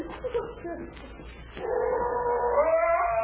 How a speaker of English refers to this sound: I've got to get rid of that blasted dog.